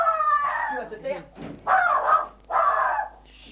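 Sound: birds calling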